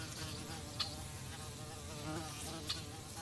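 Flies, bees and other insects buzz continuously over a slightly muddy meadow on a warm, sunny day, a steady droning hum with a couple of brief sharper passes, no voices present.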